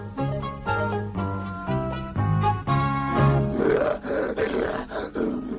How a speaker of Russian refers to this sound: Лев!